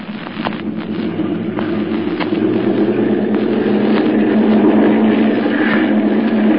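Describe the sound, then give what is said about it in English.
Airplane engines run as planes take off from runway 28, with a steady, loud droning roar and a low throbbing hum underneath, swelling slightly and holding even throughout, with no voices. “looks like the motors are going to run okay.”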